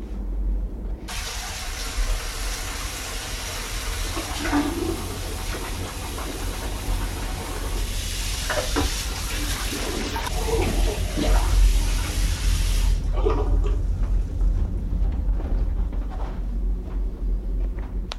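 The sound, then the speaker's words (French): Clean water pours steadily into a container for about twelve seconds, a continuous splashing hiss over a low background rumble, then stops, leaving only the faint hum. “Maintenant, si vous voulez, je vais remettre de l'eau propre et en faire l'expérience”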